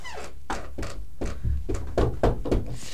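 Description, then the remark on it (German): Someone knocks on a door about ten times in a fairly steady, slightly uneven rhythm, each knock a dull, hollow thud with a low boom, and no voices alongside. “Kommen Sie erst klopfen.”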